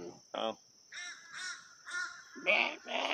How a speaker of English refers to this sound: Fuck you, crows. Don't shit on my car.